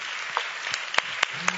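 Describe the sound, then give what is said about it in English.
Audience applause for the tribe leaders at a church gathering: a steady wash of many hands clapping, with a few sharper individual claps standing out at irregular moments, moderately loud and without speech. “Shall we just give all the tribe leaders a round of applause again?”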